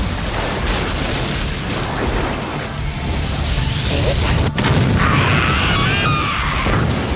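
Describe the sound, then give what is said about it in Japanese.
A sustained, roaring blast of the thunder magic spell Stun Bolt rumbles continuously with dense low-end energy, punctuated by a sharp crackling crack midway and a bright, shimmering electric buzz in the later seconds. “うわ、すげえな雷鳴魔術。”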